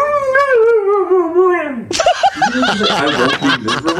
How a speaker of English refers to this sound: Did you really just say, I won't be miserable? I'm going to play it one more time because the dog says, I will not be miserable.